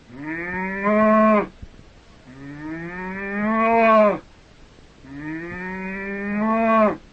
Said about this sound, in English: That's a cow.